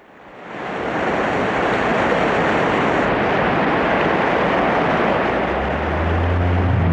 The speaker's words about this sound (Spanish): Mire, Tata, cómo se contorsiona el río. Y eso que todavía no nos llega la tempestad.